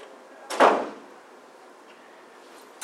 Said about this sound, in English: I'm going to close this front door for us.